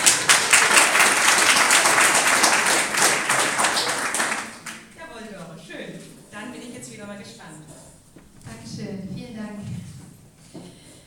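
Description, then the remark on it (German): A crowd applauds loudly with dense, steady clapping for about four and a half seconds. The applause then stops abruptly and a single person begins speaking. “Mal einen Applaus.”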